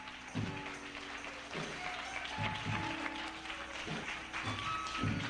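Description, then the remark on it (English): An audience claps its hands in a dense, steady wash of applause lasting several seconds, welcoming a man as people take their seats at a church service, with faint sustained musical tones and periodic low thumps underneath. “Let's give him a big hand clap as you take your seats.”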